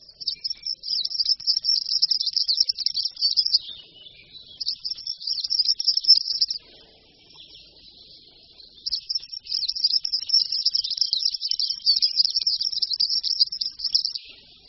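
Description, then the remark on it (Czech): A European serin sings a rapid, high-pitched, buzzy jingle in three long bursts separated by short pauses. The song is clear and alone, with no voices or other sounds. “Je zajímavé, že zvonohlík není původem náš pták.”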